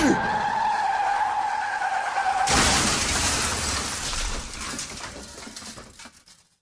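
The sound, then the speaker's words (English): Tires squeal in a steady, high whine for a couple of seconds as a car skids off I-94 in Racine County, Wisconsin, through the median, across the off-ramp and frontage road; then a loud crunching impact as it crashes into a wooded area, followed by rattling, crashing debris noise that gradually fades out. “And he drove through the median between the interstate and the off-ramp, crossed the ramp and the frontage road, and then crashed into a wooded area.”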